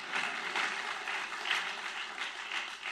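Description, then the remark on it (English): An audience at a political speech claps steadily for a few seconds after a pledge to release tax returns, a dense, even wash of many hands with slight swells in intensity, and no voices over it. “You can clap for that.”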